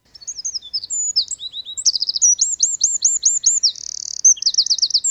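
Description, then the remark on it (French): A spotted woodpecker calling, a busy run of high, sharp notes and quick repeated rising chirps in rapid series, clear and fairly loud with no voices. “Les trois pics bigarrés dont je vous ai parlé sont présents chez nous, on les voit assez facilement, ou on les repère en tout cas à leur champ.”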